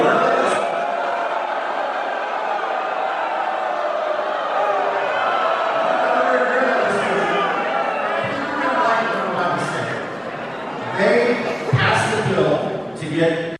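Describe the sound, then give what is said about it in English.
A large crowd at GOP Rep. Mike Flood's town hall, recorded from a camera in the crowd, shouts and jeers continuously, drowning him out: a dense wall of overlapping voices that swells into louder outbursts near the end, with no single voice coming through clearly. “Clip number 8, GOP Rep. Mike Flood's town hall drowned him out continuously. Here's what it looked like in the crowd.”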